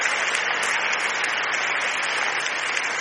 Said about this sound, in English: Come on, clap your hands and give God a praise.